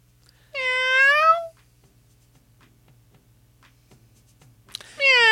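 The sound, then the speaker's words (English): A cat meows twice, loud, with a long drawn-out mew followed by a quiet pause and then a second meow starting at the end, over a faint steady hum. “Right, meow! Thanks, John. Meow! What in the meow world?”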